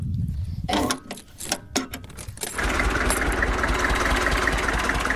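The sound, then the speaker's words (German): A Deutz tractor's diesel engine is started in the countryside of the Uckermark, Brandenburg. It cranks with a few uneven sputtering bursts, then catches and settles into a loud, steady, rattling idle. “Und jetzt würde ich euch zeigen, wie der Dolz halt angeht.”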